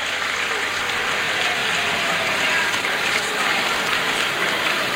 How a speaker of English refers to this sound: A round of applause for them, a round of applause for them.